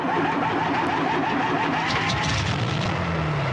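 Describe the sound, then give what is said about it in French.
A truck engine turns over and settles into a loud, steady rumble that fills the whole few seconds, with no voices over it. “Allez, à l'arrière, au camion.”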